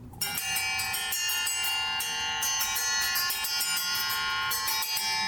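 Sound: church bells ringing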